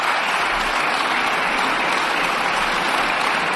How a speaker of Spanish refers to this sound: Quienes aplauden son los diputados del PP en el Congreso de los Diputados. Les voy a describir la foto. Todos en pie tras la votación de la reforma de la ley del solo sí es sí